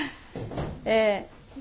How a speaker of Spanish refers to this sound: ¿Dónde vas? Cuidado. A ver si puedo ir con tus amigos, rompen la puerta.